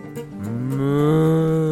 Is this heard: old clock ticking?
no